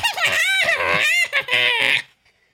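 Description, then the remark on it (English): A person imitates a shrill, cackling laugh that edges into a scream, about two seconds of high, wavering bursts, loud, then cut off. “Residents reported hearing shrill laughter somewhere halfway between a cackle and a scream.”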